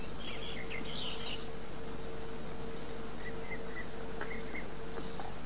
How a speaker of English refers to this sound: Just picture in your mind that we're sitting together in a high mountain meadow. Just two friends visiting, spending a few relaxing minutes together. Simply enjoying the sounds of the birds and the restful sounds of a babbling brook nearby.